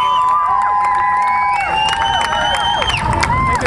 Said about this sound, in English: I hope you're applauding for more than just the fact that I'm the last speaker.